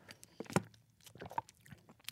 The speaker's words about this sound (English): That's me eating sausage. It sounds so dry. It sounds very dry.